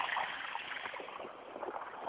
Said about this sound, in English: In a moment, I have to cross the street. And of course I have to wait for a line of 12 frickin' cars.